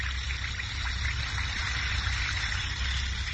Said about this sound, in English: You see, when you dissolve an Alka-Seltzer tablet or two in a glass of water, like this, it sparkles and fizzes like this.